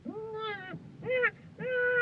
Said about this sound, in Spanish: ¿Lo oyes? Está llorando. Es tu nuevo hijo. Sí, ya ha nacido. ¡Un niño!